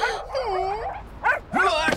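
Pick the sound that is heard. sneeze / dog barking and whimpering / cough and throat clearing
dog barking and whimpering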